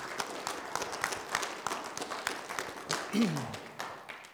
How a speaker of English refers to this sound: Can we give our pastor a round of applause and gratitude?